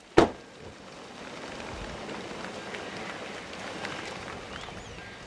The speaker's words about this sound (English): The sound of him stopping his truck and opening his door startles thousands of white pelicans. They take flight in unison.